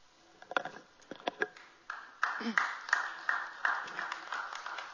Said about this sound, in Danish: Det er da dejligt. Det er da dejligt at blive klappet af, når man har skrevet en historie.